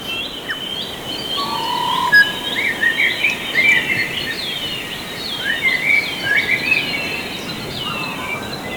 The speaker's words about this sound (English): In this hour, we're featuring the album …, recordings of birdsong made over 30 years by Waiheke musician and engineer ….